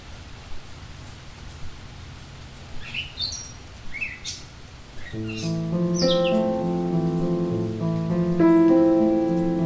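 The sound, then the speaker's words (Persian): Steady rain falls with a soft, continuous hiss while birds chirp intermittently; about halfway through, gentle sustained musical notes come in over the rain. “میدونی زیباترین بخش بارون چیه؟”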